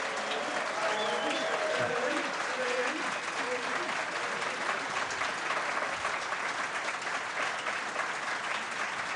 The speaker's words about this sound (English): A very big thank you to all of you in the room for coming, listening or watching this evening. A big thank you, please, by a round of applause for our panel, Jeff Mostyn, Eddie Howe and Tommy Elphick.